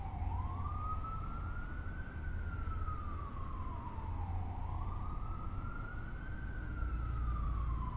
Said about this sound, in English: Thinking that siren isn't you.